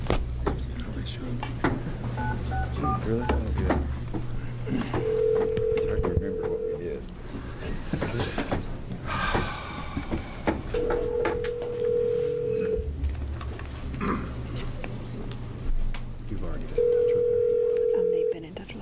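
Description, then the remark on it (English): A phone call goes out from a House Energy and Environment Committee public hearing to a person about to testify: brief dialing tones, then three steady ringback tones spaced several seconds apart, with a room of voices and rustling murmuring underneath. “Then I'm going to make this call.”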